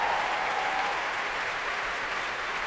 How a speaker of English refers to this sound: Applause for the brass there, the saxophones, trumpets on their feet. And the trombones.